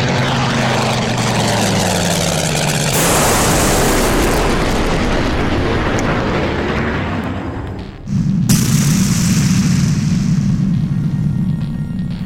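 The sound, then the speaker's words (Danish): Loud, sustained rumbling roar of bomb detonations during an air raid on a town at 19:58, with a heavy blast around three seconds in and another abrupt surge near eight seconds, under a droning aircraft-like hum. “De fleste i byen hørte braget og mærkede trykket, da den første bombe detonerede. Flere eksplosioner fulgte.”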